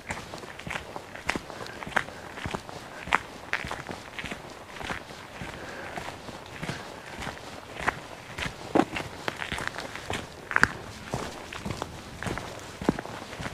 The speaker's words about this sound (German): Das ist so ein Stock, wenn ich drauf getreten bin, ja. Das ist ein Geräusch.